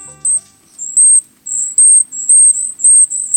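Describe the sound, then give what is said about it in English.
A series of very high, thin, silvery calls of a golden-crowned kinglet in a forest, short piercing notes repeated in quick bursts with brief gaps, fairly loud with no voices. “Listen to these thin, silvery calls coming from the forest. You're in the presence of a survivor, the golden-crowned kinglet.”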